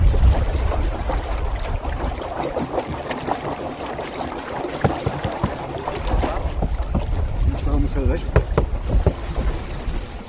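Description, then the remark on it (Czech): Water sloshes and laps against a small yellow-and-red pedal boat on the windy České údolí reservoir, with waves like at sea and steady wind buffeting the microphone; faint voices are briefly audible near the end. “Dneska to pěkně fouká. Jsou vlny jako na moři.”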